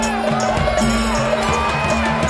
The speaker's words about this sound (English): Then the crowd roared as giant orange, purple, green, and yellow helium balloons were unleashed into the sky and hovered over the parade route.